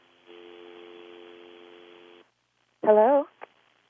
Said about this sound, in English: Oh, I'm sorry. I got a little dial tone.